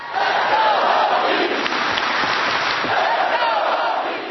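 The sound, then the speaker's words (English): A large crowd at a Virginia Tech convocation cheers and applauds loudly and continuously as Nikki Giovanni's words bring it to its feet, a dense roar of clapping and scattered shouts that holds steady for the full few seconds. “The convocation was solemn except for one moment of ebullience when Nikki Giovanni's words brought the crowd to its feet.”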